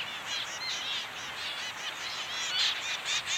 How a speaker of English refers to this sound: the University of St. Andrews in Scotland studied male zebra finches, tiny Australian songbirds with smoky gray heads, stubby red beaks, orange cheeks, and black and white tails. Peaceful and friendly, they are popular both for research and as pets.